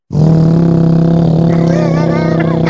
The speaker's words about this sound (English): What the fuck's that? It sounds like an air compressor. You know, it is. Hey, filling up the mattresses.